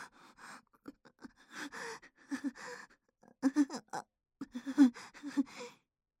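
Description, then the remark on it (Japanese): Soft, breathy exhales and sighs very close to the ear, coming in uneven bursts with short pauses, some carrying a faint voiced, murmuring quality. “ただ耳に甘い吐息がかかるだけ、ただ手をやらしくなぞられているだけなのに、どうして僕、頭がふわふわしてるんだ。”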